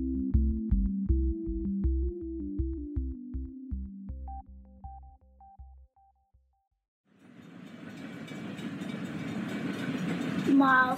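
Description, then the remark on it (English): A little steam train chugs along in a steady, rhythmic beat that fades out, followed after a short pause by a loud rush of hissing, rumbling noise with a rising whistle-like tone near the end. “Miles and miles, thought the little train.”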